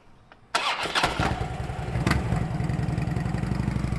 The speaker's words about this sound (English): But a sky blue motorcycle is today's ride